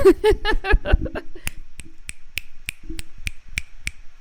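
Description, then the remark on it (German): Finger snapping in a steady rhythm, done instead of clapping as a show of support, about eight or nine crisp, sharp snaps following a brief stretch of voiced sounds at the start, with no other sound between them. “Man schnippst doch statt zu klatschen zur Unterstützung.”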